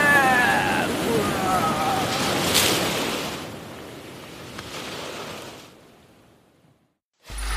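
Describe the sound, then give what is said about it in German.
Surf roars as a wave breaks, a loud rushing wash that slowly recedes and fades toward quiet, with a faint tonal cry early on and a brief burst at the end. “Die nächste Welle ist meine, klar?”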